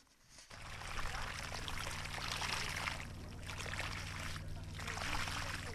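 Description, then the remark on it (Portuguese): Water gushes steadily from a pipe fed by a generator-powered water pump for a farmer's garden irrigation system in Tigray province, in a loud, continuous rushing pour, with a low engine-like hum running underneath throughout. “Alguns minutos depois, a água sai disparada por um tubo.”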